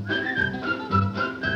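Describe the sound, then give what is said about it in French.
A person whistles a bright, steady melody with gently shifting pitch, carried over soft instrumental accompaniment; the whistled line stays clear throughout. “Sifflez en travaillant,”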